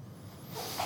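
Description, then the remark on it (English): A single short sneeze: quiet at first, then a sudden breathy, hissing burst that fills the second half of the moment. Fairly faint, with no talking. “Bless you.”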